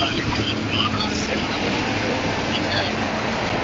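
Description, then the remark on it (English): Steady, dense rumble of city buses going in both directions and street traffic rolling past Trinity College in the centre of Dublin, a continuous low roar with indistinct voices faintly mixed into the busy roadside noise. “Buses going in both directions.”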